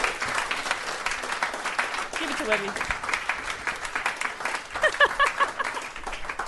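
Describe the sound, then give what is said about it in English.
A small group gives a steady round of applause at the end of a report, dense rapid clapping that runs throughout, with a couple of voices speaking briefly over it near the middle. “Round of applause!”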